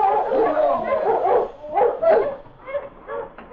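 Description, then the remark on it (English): A pack of sled dogs barks and yips excitedly as they are urged on leaving Lion City at 4 o'clock in the afternoon, overlapping bursts of yelps and whines, with a brief pause midway before another run of sharp yips. “Rush, you mother mutes! Rush!”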